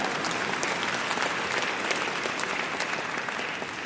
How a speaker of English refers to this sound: God, yeah, you can even clap if you want here.